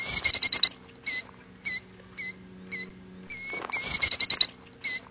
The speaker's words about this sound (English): One bird that is impossible to ignore is the killdeer. Its call is loud and easily recognizable.